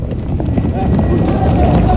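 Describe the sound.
A crowd of people runs along a street, a dense, continuous patter of many hurried footsteps up close, with voices shouting and murmuring among them.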